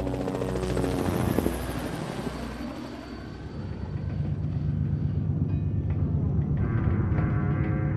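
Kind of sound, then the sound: vehicle, helicopter flying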